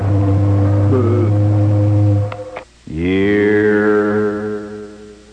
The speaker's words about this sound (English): And we get an occasional boat, too.